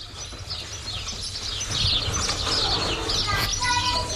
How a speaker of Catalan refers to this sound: És que sento de fons una d'ocells que em sembla increïble. Podem fer un moment de silenci per escoltar els ocells de Peramola?